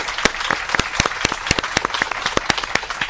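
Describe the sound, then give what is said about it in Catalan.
About a hundred people from the Club Més Amics, friends of Ràdio Estel of Catalunya Cristiana, applaud aboard a Grimaldi Lines ship, many hands clapping in a dense, continuous patter with sharper individual claps popping out irregularly. No one speaks over it. “Aquest és un aplaudiment també dedicat a vosaltres, amics oients de Ràdio Estel i Ràdio Principat”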